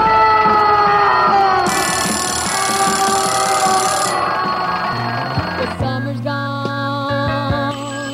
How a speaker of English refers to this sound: It's just about morning in the city. Right away, there's the alarm clock ringing or buzzing, and people mumbling or grumbling about not getting enough sleep and tumbling out of bed.